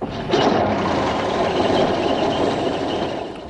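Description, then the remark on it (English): An old fire engine's motor, which runs on the same petrol used in Spitfires, is started up. It catches with a sudden burst, then settles into a loud, steady rumbling roar that holds evenly for several seconds before easing slightly at the end. “Right, hold on, everybody. I've got to start her up.”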